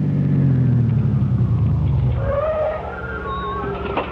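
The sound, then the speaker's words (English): At night, a car engine rumbles loudly, its pitch sinking as the car pulls up and settles on returning from an evening church service. It then idles more quietly, with thin, high squeaky tones over it. “Aren't you going to put the car away, Al?”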